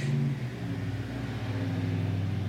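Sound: truck engine driving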